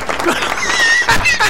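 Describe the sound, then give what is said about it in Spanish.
A short burst of applause from a crowd, dense and steady throughout, with some voices and a high whistle-like tone mixed in. “Aplausos.”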